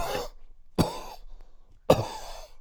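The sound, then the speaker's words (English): Three sharp, deliberate coughs given as a coded signal, fairly loud, spaced about a second apart with brief silences between them and no talking. “at a particular location, and I cough three times.”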